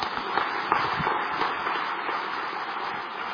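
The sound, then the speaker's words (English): An audience applauds the three speakers Yuta Damo Bhikkhu, Venerable Dhammajiva and Ajahn Brahm after their talks, a dense wash of many hands clapping at an even loudness with no voices, holding for a few seconds and easing slightly at the end. “Let's give them another round of applause, please.”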